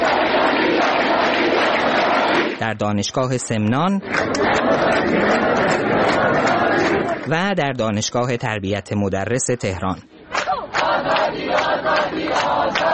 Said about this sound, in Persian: و آزادی در دانشگاه فردوسی مشهد هم فریاد زده می شد.